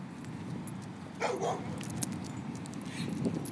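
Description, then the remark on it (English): A dog whimpers and lets out a short bark partway through, then makes a softer whine near the end, on a riverside towpath during a walk, set against steady outdoor background noise. “On you go, big doggy.”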